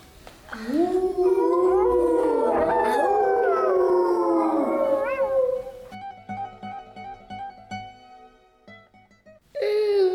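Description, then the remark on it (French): A long, loud howl of a werewolf in a forest at night rises and holds for several seconds before trailing off, followed by quiet, sparse tinkling tones and a sudden loud burst at the very end. “Mais une bête rôde, un loup-garou.”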